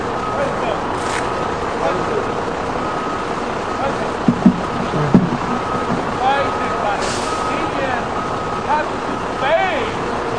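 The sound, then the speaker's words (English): A large bus rumbles steadily behind the speaker, its loud engine drone filling the scene with a couple of brief hissing bursts, while faint voices murmur underneath. “I'm sorry, sir, the bus behind me, I can't hear you very well.”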